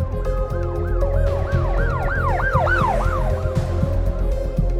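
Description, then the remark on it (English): An ambulance siren wails in quick, repeating rise-and-fall sweeps, loud, over a steady low rumble of traffic or an engine, with no one talking. “An ambulance arrived quickly, pulling Lyman out of the car and rushing him to St. Mary's Mercy Hospital.”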